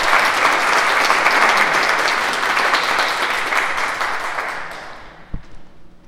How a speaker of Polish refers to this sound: Trenerem naszego Tomka jest Jacek Kaczmarek. Brawa dla Jacka.